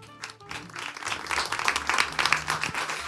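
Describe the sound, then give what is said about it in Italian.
An audience at a live show breaks into applause for itself, a dense wash of many hands clapping that swells in the first half-second and holds steady and fairly loud throughout. “Buonasera, buonasera, buonasera a tutte e tutti, fatevi un applauso.”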